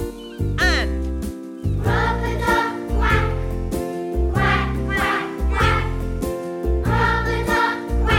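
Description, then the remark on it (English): A voice sings short, rhythmic rubber-duck quacks in a children's song over a bouncy, bass-heavy backing, the imitated calls repeating in steady groups, loud. “It's rubber duck quack, quack, quack, quack.”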